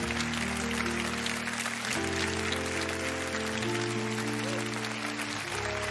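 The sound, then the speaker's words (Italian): Sustained studio audience applause, a dense, steady wash of many hands clapping for the full six seconds, with held musical chords playing underneath. “No, no, questo applauso lo facciamo alla regia,”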